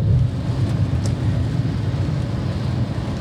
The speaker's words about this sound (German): es regnet auch jetzt die ganze Zeit während der Autofahrt schon.